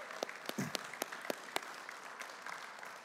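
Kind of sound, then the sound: crowd, audience applauding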